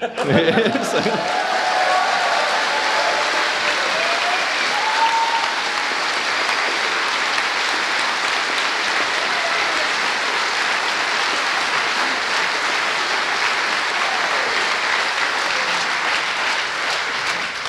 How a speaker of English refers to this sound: So I'm going to make you clap again.